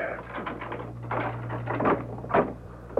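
A door being opened, with a series of rattling clicks and clunks from the latch and frame over a steady low hum, ending in a sharper knock.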